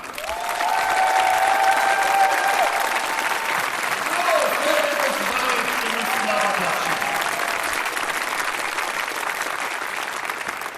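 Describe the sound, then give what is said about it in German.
Loud, sustained applause from a large audience welcoming a performer to the front, a dense wash of clapping with scattered cheers and whoops rising above it, steady throughout. “Und deswegen bitte ich jetzt nach vorne mit tosendem Applaus, 10 Punkte Applaus bitte”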